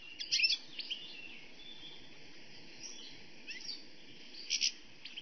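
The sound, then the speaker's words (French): Birds chirp and sing in the branches of trees in a large garden, with bright bursts of calls near the start and end over a steady hum of chatter and faint insect-like noise. No one speaks. “Partout dans les branches, des chants d'oiseaux à foison.”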